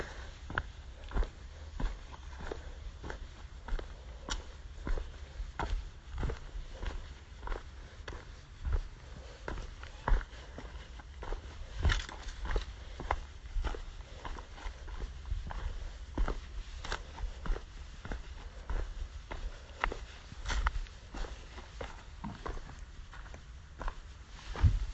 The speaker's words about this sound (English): So my heavy footfall is a bit of stamping.